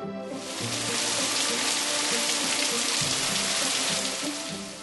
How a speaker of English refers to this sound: Yeah, the rain came really fast. 对啊，雨来得真的很快。